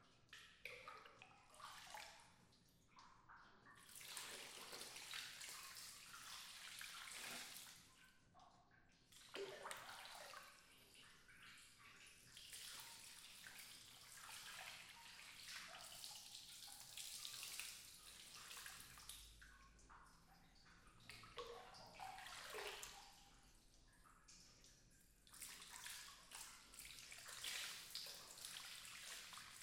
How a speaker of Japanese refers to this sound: 一度、全身の泡を流していくわね。